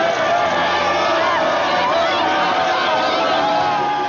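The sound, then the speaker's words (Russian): A large crowd outside a courthouse cheers and shouts jubilantly as a man leaves the court acquitted, a dense, continuous roar of many voices with excited whoops rising above the din throughout. “Таким ликованием толпа встречала Джона Готти, выходившего из здания суда с оправдательным приговором”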